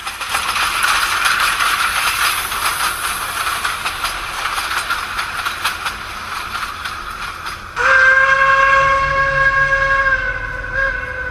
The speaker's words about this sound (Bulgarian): И влакът, с който пътуваме в едно романтично минало, да стане транспортът на бъдещето.